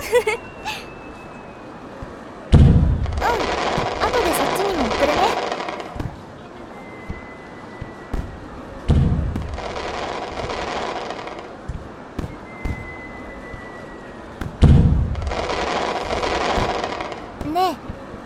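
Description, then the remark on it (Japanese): Three fireworks burst at roughly six-second intervals, each a deep boom followed by a few seconds of crackling shimmer, with faint voices murmuring in the background. “おお、見て、花火もぴったり入ってる。”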